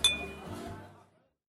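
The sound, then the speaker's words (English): Glasses clink together once in a toast, a bright chime that rings briefly and fades out within about a second over a faint low murmur. “Cheers. Cheers.”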